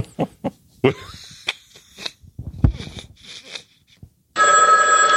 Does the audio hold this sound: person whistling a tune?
no